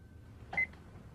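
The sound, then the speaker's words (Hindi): One short telephone keypad beep as a number is dialed, a single bright electronic tone with a faint click, against a quiet, low hum; no one speaks. “वो टेलीफोन मुझे दो।”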